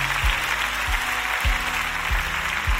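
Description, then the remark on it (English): Steady, dense crowd clapping, a continuous wash of many hands at moderate volume, with a few low thumps underneath and no voices standing out. “I don't know why you're not clapping, because we can use that to help people.”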